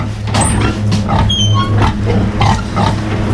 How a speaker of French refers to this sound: On va voir les cochons ?